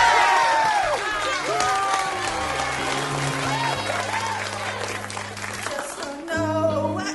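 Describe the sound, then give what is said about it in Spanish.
A crowd in a karaoke bar applauds a singer steadily and loudly for about seven seconds, dense clapping mixed with cheers and scattered shouts, while sustained music chords play underneath. “Señoras y caballeros, por favor, un aplauso para la deslumbrante estilización vocal de la señorita Kimberly Wallace.”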